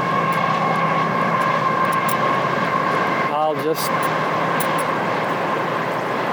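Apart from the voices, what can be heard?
train passing by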